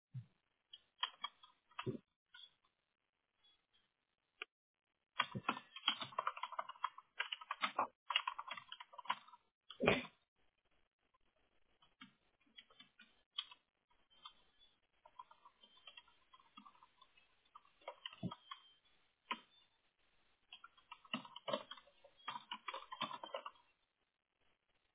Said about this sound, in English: And what I'll do is I'll walk you through the clicks and the typing because I have to read to you anyway. So it's just easier to get the clicks and typing out of the way and quicker that way.